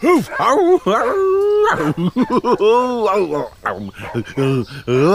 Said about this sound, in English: Is it a lion? It's my dog, Pila. He just looks a bit like a lion.